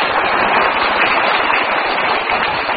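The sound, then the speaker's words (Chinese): An audience of listeners at a live show claps at the host's prompt for about three seconds, a dense, even patter of many hands with no voices rising above it. “大家说啊，鼓掌。”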